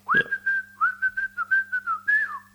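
Someone whistles a short song tune, a steady pitched tone broken into quick repeated notes in a rhythmic pattern, with a faint low hum underneath and no talking.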